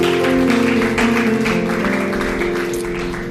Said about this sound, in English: Would you give God one more hand clap of praise as you're seated today?